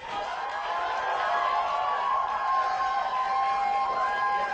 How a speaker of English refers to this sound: Chinese dissident Chen Guangcheng arrived in New York to a crowd of cheering supporters on Saturday.